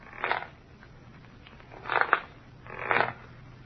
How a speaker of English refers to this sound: On the fifth night of our wait, we heard the rocking chair creaking, creaking, creaking.